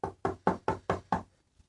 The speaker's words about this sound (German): Plötzlich klopfte es an der Tür.